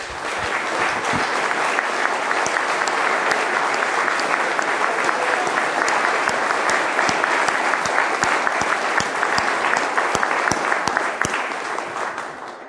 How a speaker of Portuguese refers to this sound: Nós podemos aplaudir o Senhor que deu esse poema para o Carlos.